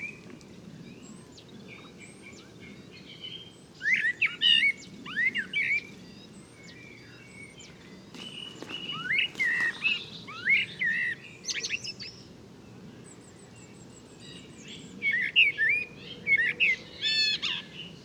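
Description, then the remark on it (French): A common blackbird sings in bursts of warbling, fluty phrases with short pauses between them, over a soft low outdoor rumble and a few faint bird calls. “Retour sur le merle noir.”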